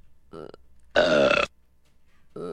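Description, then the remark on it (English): A cartoonish burp: a loud, raspy, drawn-out belch of about half a second in the middle, framed by two shorter, quieter voiced grunts before and after, with no talking. “Do you know whose burp that was?”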